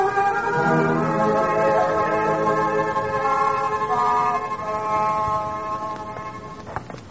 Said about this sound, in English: Hey, here comes a car. Quick, hide behind this tree.